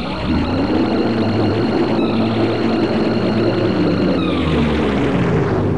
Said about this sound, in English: And it just... the scream of Lavos is something that sends a massive chill down your spine, and you're just like, oh my god, I am so dead.